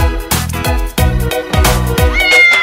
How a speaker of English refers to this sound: The cat on the bus goes meow, meow, meow. Meow, meow, meow. Meow, meow, meow. The cat on the bus goes meow, meow, meow. All through the town.